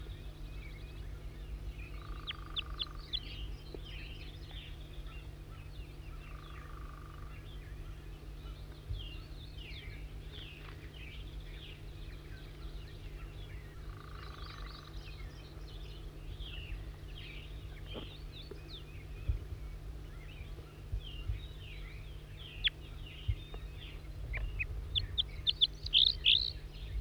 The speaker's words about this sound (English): Wild bird again.